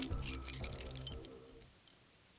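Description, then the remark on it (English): Keys jangle and clink in a quick metallic flurry for about a second as someone unlocks a door, then fade to a faint rattle and near silence. “He refused to stop there and was thankful he didn't lose his keys in the forest as he desperately tried to unlock his door.”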